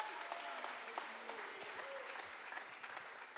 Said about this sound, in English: Somebody clap your hands all over this house. Aplaude sus manos en toda esta casa.